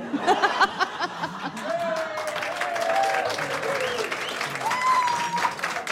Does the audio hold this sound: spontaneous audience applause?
yes